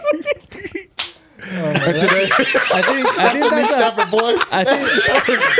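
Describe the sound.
A single loud, sharp knee slap cracks out near the start, followed immediately by several people snickering, chuckling and talking over one another.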